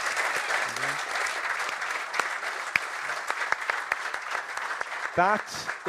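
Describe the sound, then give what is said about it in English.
A crowd applauds steadily for several seconds for Eamon Darcy and Conor Moore, a dense wash of clapping with a few sharper individual claps, while a voice briefly calls out over it. “So, round of applause.”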